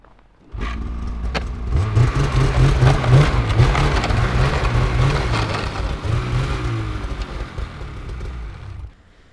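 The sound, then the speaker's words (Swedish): A snowmobile engine starts up and revs hard for several seconds, its throaty, rising pulses loud and rough before cutting off abruptly, during a snowmobile demonstration at Linderots in Luleå. “Vad är det för skotrar som står här?”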